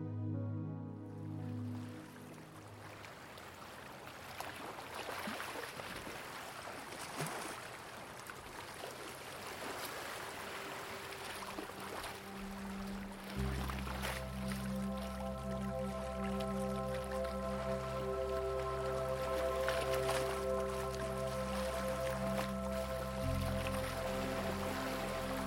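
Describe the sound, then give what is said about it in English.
Gentle waves lap softly and steadily at the shore of a bay, a continuous watery wash, with low sustained musical tones swelling in underneath partway through. “You are greeted by the soothing sound of gentle waves lapping at the shore of the bay.”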